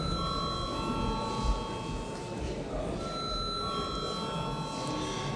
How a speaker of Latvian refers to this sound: Lūdzu balsot par trešo lasījumu. Lūdzu zvanu.